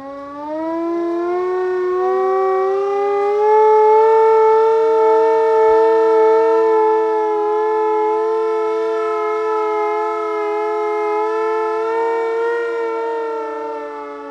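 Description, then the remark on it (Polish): A civil defense siren sounds one long, steady wail with a rich stack of harmonics, rising in the first second, holding loud and level for over ten seconds, then easing slightly at the end, sounded as a symbolic alarm for the Oder river. No voices. “Dlatego zaczniemy od symbolicznego ogłoszenia alarmu dla obrych.”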